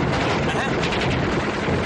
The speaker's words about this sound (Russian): Поприщенко стреляет длинными очередями.